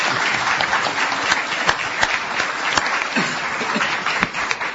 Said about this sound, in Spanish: Aplausos del público.